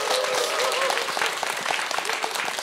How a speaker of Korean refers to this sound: 편안함을 나누는 노래로 우리 큰 박수로 청해 보도록 하겠습니다. 부탁드립니다.